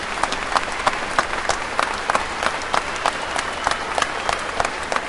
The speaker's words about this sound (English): Coming out of the Guildhall, throwing their fists in the air, they were met with a rapturous round of applause.